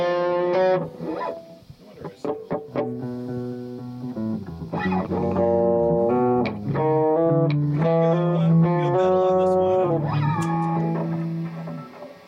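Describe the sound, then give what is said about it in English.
A heavily distorted instrument plays a loud melodic line of sustained, buzzy notes that bend and shift in pitch, with a few short choppy stabs and brief gaps between phrases. “I've got a whole different distortion on this one.”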